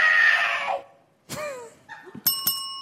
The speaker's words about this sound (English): If you don't know, Bop It is a handheld electronic game that sort of, it's like Simon Says, but it just tells you to do things, right? It just yells at you things to do.